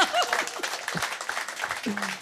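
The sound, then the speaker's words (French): Steady audience applause, called for very loudly just before a song performance on Mona FM, fills the whole two seconds, a dense crackle of many hands clapping, with scattered voices calling out over it. “On applaudit très, très fort, allez.”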